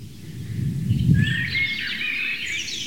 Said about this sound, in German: Währenddessen genießt ihr die Amsel, das ganz zart unterlegt ist vom Rotkehlchen.